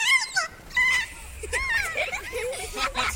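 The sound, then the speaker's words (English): A kea's play call: a run of shrill, warbling squeals that rise and fall quickly in pitch, several bursts overlapping over a few seconds, loud and with no talking. “Scientists think the play call had an emotional effect on the birds.”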